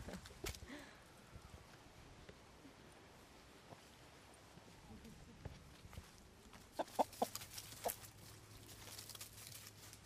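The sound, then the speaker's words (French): Young hens cluck in alarm, a cluster of short, sharp calls rising toward the end over a steady farmyard background, moderately loud, with no voices. “Et ça, ce sont les jeunes qui ont peur.”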